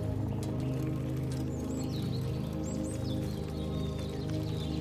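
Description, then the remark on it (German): Faint bird chirps and short whistled calls flit above a steady, dense low rumble in a dense pine forest, with no one speaking. “Der Ruf der Möwen wird von zwitschernden Vogelstimmen abgelöst und der Sand weicht einem weichen Waldboden.”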